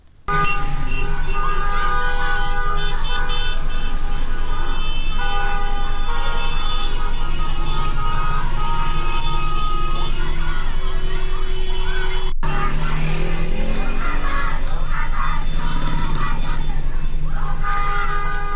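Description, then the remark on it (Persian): School students outside their school grounds chant loudly and continuously at cars honking in the street, shouting the slogan "Don't honk, shout", over steady street noise, with car horns honking repeatedly throughout, some long sustained blasts mixed with shorter toots. “امروز صبح هم عده‌ای از دانش آموزان یکی از مدارس بیرون از محوطه مدارس خطاب به ماشین‌هایی که بوق می‌زدند در خیابان، که این هم به امری عادی در روزهای گذشته تبدیل شده، می‌گفتند، شعار می‌دادند که بوق نزن، فریاد بزن.”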